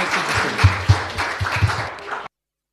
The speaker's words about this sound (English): Let's give Piers a round of applause. Thanks very much.